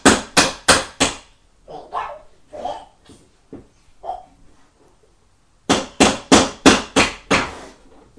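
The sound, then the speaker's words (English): Loud hammering by a child fixing a chair: a quick run of four sharp blows, a pause with softer scattered knocks, then a faster burst of about six steady strikes. “I'll use my hammer.”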